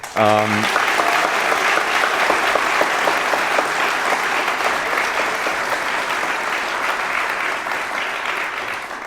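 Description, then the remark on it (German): An audience applauds steadily for about nine seconds, a dense, even wash of many hands clapping at a loud, sustained level after a brief harmonic tone at the very start. “Das ist tatsächlich im niedrigsten zweistelligen Bereich geblieben an Leuten, die wir hier der Veranstaltung verwiesen mussten und das hat auch, glaube ich, einen Applaus verdient.”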